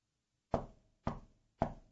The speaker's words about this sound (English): that the knock on the door is not on our door from the government officials.